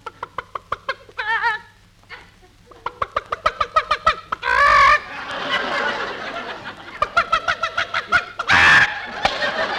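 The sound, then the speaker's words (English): Several hens cluck in quick, uneven bursts as they are fed corn, with two loud squawking outbursts breaking through the steady chatter of the flock. “We've got to feed the chickens.”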